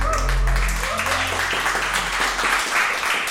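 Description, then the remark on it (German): An audience at a recording in the SWR pop-up studio in Kaiserslautern applauds with dense, steady clapping that fills the whole clip at a fairly loud, even level, with a low hum underneath at the start. “Vielen, vielen Dank für den Applaus.”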